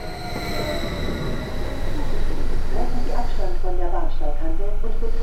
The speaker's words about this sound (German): Der Zug rollt jetzt hier direkt auf dem Bahnsteig. Die Türen haben aber doch noch einen deutlichen Spalt jetzt.